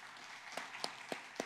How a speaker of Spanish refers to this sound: Les damos un aplauso a los que se bautizaron ayer.